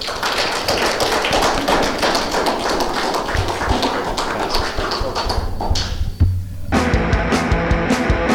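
Small audience applause: many hands clapping in a dense, steady patter, briefly thinning for a moment near the end before the clapping picks up again. No voices stand out.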